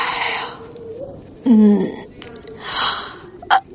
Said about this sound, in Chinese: 尚未梳洗的老板娘一个哈欠还没来得及打完，就被在门口瘫坐的年轻女孩吓了一跳。